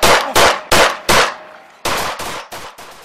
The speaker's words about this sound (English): The officer shot at him 20 times, killing the 22-year-old in his grandparents' backyard.